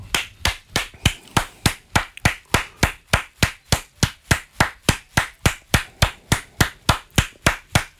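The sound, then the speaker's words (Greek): Steady hand clapping, about three sharp claps per second, keeping an even rhythm for the whole stretch. Fairly loud, with no voices. “Συνέχισε να χειροκροτάς γιατί είναι παγκόσμια μέρα θεάτρου σήμερα.”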